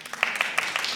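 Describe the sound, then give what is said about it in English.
An audience clapping in a steady rhythm, four sharp claps about a fifth of a second apart over a continuous hiss of crowd noise, with no voices. “Can you clap for me?”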